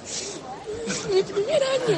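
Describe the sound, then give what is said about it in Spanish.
A dense, steady din of many overlapping voices fills a hall during a lottery draw, with children's and adults' shouts rising above a continuous noisy crowd murmur. “Bueno, se ha montado tal algarabía aquí que no puedo decir...”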